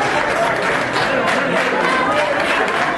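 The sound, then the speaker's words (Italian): Steady applause from a large audience welcoming Sánchez at the FAO headquarters, a dense wash of many hands clapping at once with a faint murmur of voices mixed in, sustained at an even, fairly loud level. “Ma gli applausi con cui Sánchez è stato accolto nella sede della FAO fanno capire chi è il vero favorito.”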